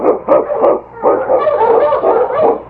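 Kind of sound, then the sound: animal, husky sled dog barking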